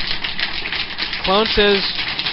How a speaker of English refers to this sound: I play applause, but I can't find it. There it is.